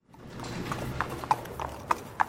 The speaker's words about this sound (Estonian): siis pääsevad inimesed ja ka need hobukaarikud sisse ja siis on juba kuulda, kuidas sillutise kivid hobuse kapjade alt vastu kõlavad.